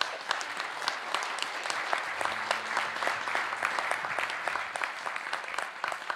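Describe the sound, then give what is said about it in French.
An audience applauds the Lord together in a dense, steady wash of clapping that holds at an even level throughout, with a faint low hum beneath it and no voices rising above. “Est-ce qu'on peut applaudir le Seigneur dans les dignes?”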